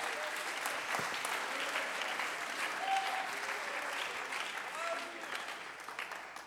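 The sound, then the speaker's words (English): An audience claps their hands to give God praise in a steady, dense wash of applause that fills the room, with a few faint voices and calls mixed in underneath. “Come on, somebody clap your hands and give God praise.”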